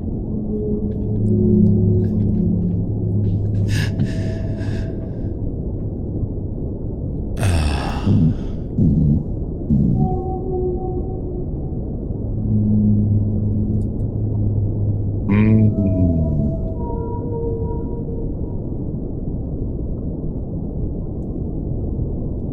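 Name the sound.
whale song recording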